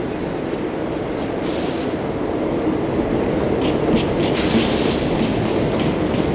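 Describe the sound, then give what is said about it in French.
A subway train pulls in with a steady low rumble of wheels on rails, bright hissing and squealing bursts rising near the end as it brakes. No voices. “Un métro arrive.”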